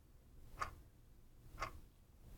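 A quiet clock ticks twice, about one second apart, each tick a short crisp click over a faint low background hum.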